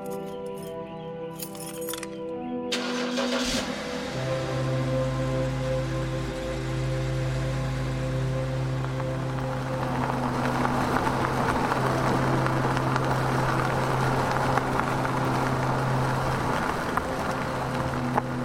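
A truck engine turns over and catches after a few seconds, settling into a steady low rumble that grows rougher and louder as it pulls away; no voices.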